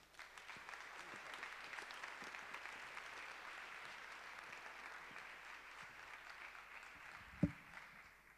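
Steady applause from a crowd, a dense even patter of many hands clapping for several seconds, with one sharper thump near the end and no talking.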